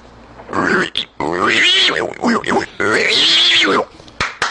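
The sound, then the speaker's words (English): A person imitates a pig squealing in loud, strained, high-pitched bursts, two long shrill squeals broken by short grunting gaps, with no other talk. “I just thought I'd show you because that's one of my very few talents is pig squeal.”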